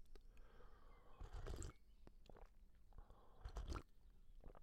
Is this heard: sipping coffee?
yes